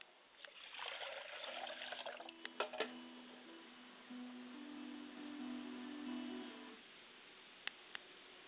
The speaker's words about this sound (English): I pour libations to the ground, and I say, Ashe. And hope that the water will hit the ground and take root, and the word will spring up and grow, and some will come and water it, but God will give the increase.